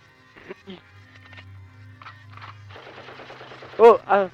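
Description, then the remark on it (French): A rapid, crackling burst of machine-gun fire, presented as a terrorist attack, builds after a few brief spoken sounds over a low hum, ending in two loud, sharp gunshot blasts. “Je sais pas ce qui se passe, attention, on est attaqué par des terroristes.”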